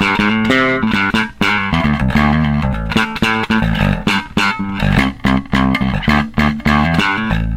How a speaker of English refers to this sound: really important with bass effects because it's realistically impossible to get a good overdrive that doesn't suck some of the low end out of your tone